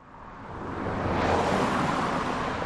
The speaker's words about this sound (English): A steady flow of cars whiz along the busy road outside Eckstein Middle School in North Seattle.